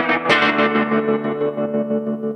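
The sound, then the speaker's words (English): A sustained electric guitar chord played through an Electro Harmonix Ocean's 11 reverb pedal, washed in reverb, its loudness pulsing gently in a steady tremolo wobble after a bright strummed attack, with no voices over it. The guitar has a very thin neck. “Reverby pedal. Oh, you got some tremolo-y action there.”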